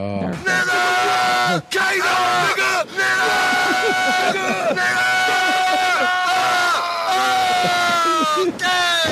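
Several people in a video screaming and yelling loudly, their raw, strained voices overlapping almost without pause, broken only by a couple of brief gaps for breath.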